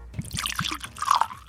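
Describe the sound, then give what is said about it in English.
Dubstep-aged bourbon whiskey pours into a glass in a short burst of liquid gurgles and small plops, with a brighter rising splash near the end as the glass fills. No one speaks. “let me pour you some.”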